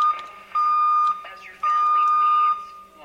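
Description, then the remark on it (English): The deviation alarm of a radio test set emits steady, loud high-pitched tones, one short and two long beeps with brief gaps, over faint background voices and equipment noise. “There's that deviation alarm again.”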